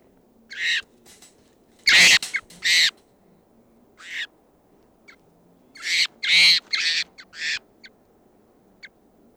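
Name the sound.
wild birds calling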